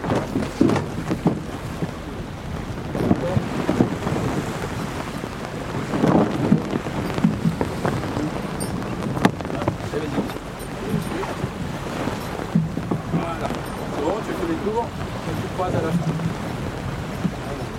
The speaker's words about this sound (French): Alors qu'à terre, une simple bise nous caressait les oreilles, très vite, elle prend de l'ampleur et pousse notre embarcation.